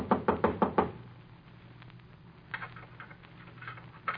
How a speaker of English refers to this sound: Someone knocked.